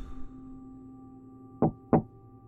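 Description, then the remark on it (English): Two firm knocks on a door, evenly spaced about a third of a second apart, sounding alone over a low steady hum with no one speaking. “Whit counted 12 doors on his right, and then found himself taking a deep breath before knocking twice.”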